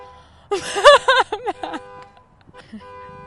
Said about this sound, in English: No, we've got Matt Haley setting off his alarm every time I start talking, so.